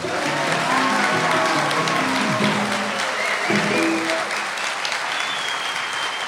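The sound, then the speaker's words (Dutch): Loud, steady applause from a large audience, dense clapping that fills the whole clip with a few faint voices and cheers mixed in underneath. “Want voor de allereerste keer in de geschiedenis van Onbehaarde Apen nemen we een aflevering op met live publiek.”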